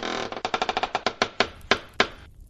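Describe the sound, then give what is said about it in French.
The door of an old abandoned chalet high in the mountains creaks open at nightfall, its hinge giving a rapid run of rasping pulses that gradually slow and spread apart before fading out, with no voices. “Il ouvrit la porte.”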